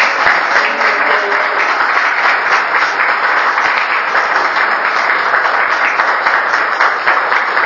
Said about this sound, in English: I'm sorry, I'm interrupting, but I just wanted to say for a moment that I think we should give Patrick Sheehan a round of applause.